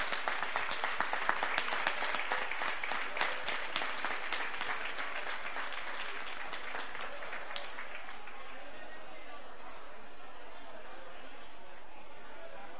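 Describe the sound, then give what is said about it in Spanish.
A crowd at the Cofete festivities claps in sustained applause for the Comisión de Fiestas de Cofete, dense and steady for about eight seconds before thinning out and fading into a low murmur of voices. “Entonces, en primer lugar, un aplauso otra vez, porque se lo merecen, a la Comisión de Fiestas de Cofete.”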